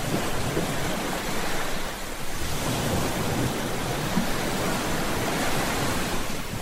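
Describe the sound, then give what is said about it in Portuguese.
Steady roar of ocean waves breaking, a continuous wash of surf with a brief dip in intensity partway through, loud, with no voices present. “Coloque atenção no barulho das ondas novamente.”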